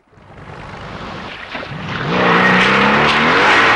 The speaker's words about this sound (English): Bond surges past Billy Bob's boat and it immediately accelerates in chase